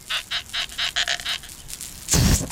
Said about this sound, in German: Diesmal quietscht Kalli mit einem neuen Luftballon.